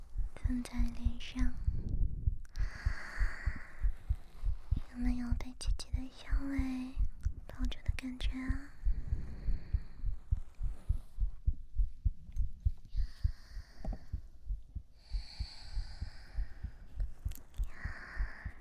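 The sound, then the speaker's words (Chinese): A steady heartbeat thumps on throughout, low and muffled, heard while being held in a hug, as a woman whispers softly over it with gentle breathing between phrases. “一边是心跳，一边是姐姐的呼吸。”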